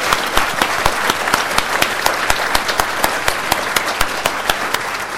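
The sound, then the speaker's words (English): An audience at an event applauds the AAT staff for organizing the day, clapping steadily for several seconds, a dense wash of many hands with a few sharper individual claps popping out above the crowd. “Can you just join with me and give them all a huge round of applause for what they've done here today?”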